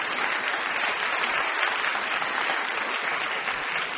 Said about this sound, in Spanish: Pero de todas formas, demos un gran aplauso a los dos concursantes que hicieron un gran esfuerzo.